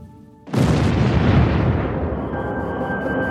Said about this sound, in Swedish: En hög smäll skakar om hela farkosten och maskinerna börjar tjuta och blinka. Astronauterna är vid det här laget mer än 32 000 mil från jordens yta.